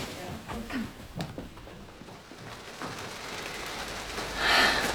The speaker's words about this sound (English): Well, it's raining like mad. We can shelter in that hut at the bottom of the lane.